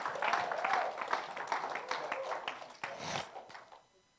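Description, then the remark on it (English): A crowd claps for the Lord Jesus in a dense, steady burst of many overlapping hand claps, fairly loud throughout, then thins out and fades away over the last moment. “Clap for the Lord Jesus.”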